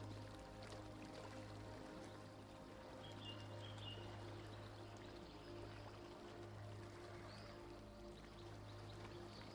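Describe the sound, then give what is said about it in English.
Water laps and sloshes steadily at the edge of a small harbour as the tide comes in, with a low engine-like hum underneath and faint bird calls. “The tide is coming in, and colourful little boats bob at anchor.”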